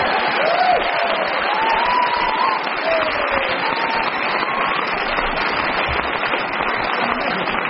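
Sustained studio audience applause, a dense, steady wash of clapping holding at an even loudness throughout, with a few faint voiced whoops rising briefly above it near the start.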